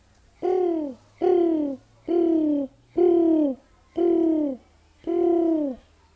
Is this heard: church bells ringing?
no